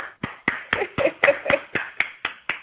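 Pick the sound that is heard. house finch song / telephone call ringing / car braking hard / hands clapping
hands clapping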